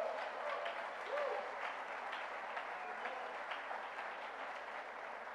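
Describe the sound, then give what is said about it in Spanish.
A large church audience claps steadily and continuously, a dense wash of applause filling the space from start to finish, with faint voices and a brief tonal whistle or cry mixed in. “Se lo digo como pastor, los aplausos suenan bellísimos,”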